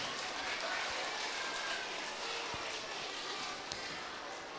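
audience applause

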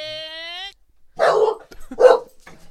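dog barking

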